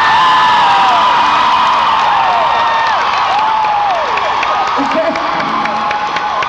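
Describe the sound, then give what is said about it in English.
A large crowd cheers loudly and continuously, with many overlapping whoops and shouts over a steady wash of applause and scattered claps, sustained throughout. “This is the happiest crowd I've seen in a long time.”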